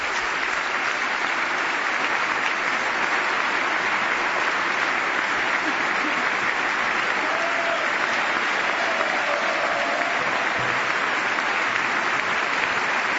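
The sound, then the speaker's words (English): Sustained, loud applause from members of Congress during the State of the Union speech, honoring Army Ranger Corey Remsburg; a dense steady roar of clapping that holds at the same level for the whole stretch without letting up. “The most extended applause we've had so far tonight for Corey Remsburg, who gives a thumbs up to the crowd and now a wave.”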